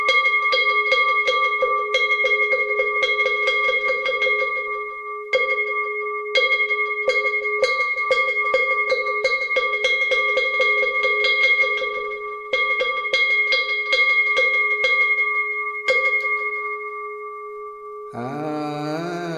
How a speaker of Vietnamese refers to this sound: Sau đó chúng ta cho ba hồi chuông và mõ.